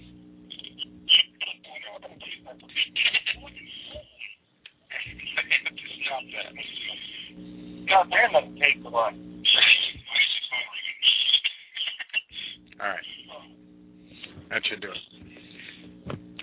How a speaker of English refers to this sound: Why is the phone ringing? Who's phone ringing? Hold on.